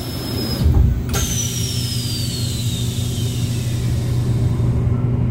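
A Hitachi limited express train departs Shinagawa Station in Tokyo, Japan, heard from inside the train: a steady low mechanical rumble and a thin electric motor whine gliding downward in pitch, after a brief louder burst of noise near the start; no one speaks.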